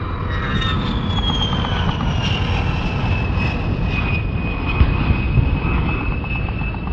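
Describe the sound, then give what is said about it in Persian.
A loud, continuous roar of enemy military aircraft passing low over a moving ambulance on a bumpy dirt road, a broad engine rumble with a high whine that slowly drops in pitch, steady throughout with no voices. “صدای غرش هواپیماهای دشمن که گویی از چند متری روی آمبولانس عبور کردن زمین و زمان رو لرزوند.”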